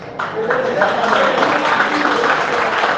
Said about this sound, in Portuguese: Muito obrigado pelo aplauso, mas eu não tenho torcida organizada aqui.